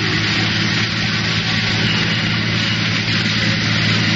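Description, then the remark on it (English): A car engine drones steadily as the car drives without chains along snowy, old high-crowned back roads in Connecticut, a loud, continuous low hum with a broad road-noise hiss layered over it and no voices. “It's pretty hard to hold this car down in these old high-crowned roads.”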